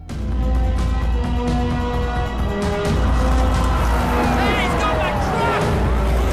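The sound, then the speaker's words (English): A truck roars past at speed down a road with a loud engine rumble, followed by two police cars, sirens wailing and sweeping in pitch as they race just behind amid noisy commotion. “The workmen are forced to dive out of the way as someone drives past them down the road in their truck. Two police cars follow just behind.”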